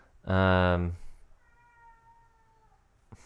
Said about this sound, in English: I'm sorry if you guys can hear my cat.